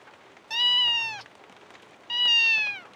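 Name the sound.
kitten meowing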